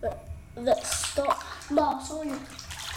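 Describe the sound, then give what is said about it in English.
Water sloshes and splashes in a bathtub in several quick bursts, fairly loud, as a child blows on the water to make waves, the child's voice chattering and humming over the splashing. “I blow the water.”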